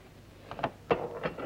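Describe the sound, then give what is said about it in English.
A grey-haired man slides open a hatch door with a few short wooden scrapes and clunks, the loudest a sharp knock partway through, followed by a softer rattling slide. “A grey-haired man slides open a hatch door.”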